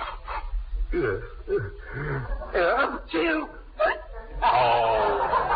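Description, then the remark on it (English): A voice gives a series of short, squeaky hiccups in uneven succession, then, after inhaling pepper as a hiccup cure, breaks into a loud, drawn-out sneeze at the end, all clear. “I just wanted to know if it was possible to sneeze and hiccup at the same time.”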